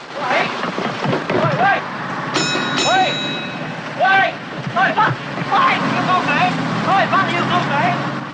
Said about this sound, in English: Stan pulls away in the bus.